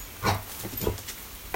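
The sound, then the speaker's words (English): A dog's jaws snap shut several times in quick, irregular succession as it catches water squirted into the air by a sprinkler pad on a hot day, with short wet clicks and low mouth noises over a faint background hiss. “You hear his jaws snap.”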